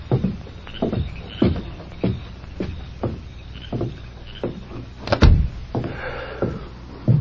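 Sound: door closing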